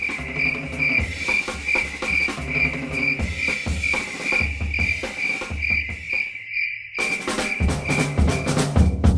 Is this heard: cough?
no